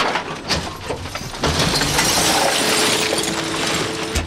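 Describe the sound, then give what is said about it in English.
Glass bottles and cans clatter and crash in a quick jumble as two garbage men collect recycling bags of plastic jugs, tin cans and glass bottles on a Saturday in Bensonhurst, Brooklyn, New York, then a loud, steady mechanical grinding and rumble takes over, with no one speaking. “Two garbage men collect newspapers and bags filled with plastic jugs, tin cans, and glass bottles.”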